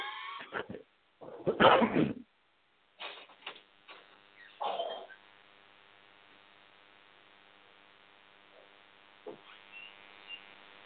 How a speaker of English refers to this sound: Sorry, was everybody waiting for me to cough up a bunch of phlegm? Were you guys like listening like a bad YouTube video? What, to your coughing? Yeah. We were rooting that you'd make it through.